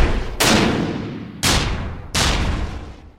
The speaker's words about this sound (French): Les coups de feu des soldats et des gardes nationaux blessent plusieurs révolutionnaires et font tomber le drapeau rouge placé au sommet de la barricade.